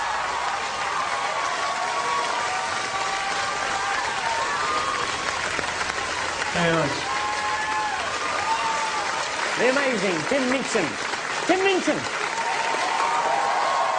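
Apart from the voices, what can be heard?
sustained audience applause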